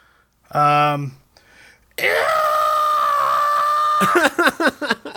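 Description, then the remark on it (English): A person vocally imitates the Howie scream, a stock movie scream: a brief yelp, then a long, loud, sustained wailing shriek that breaks into rapid, choppy, descending cries, performed alone. “And I can try my best to do the Howie scream.”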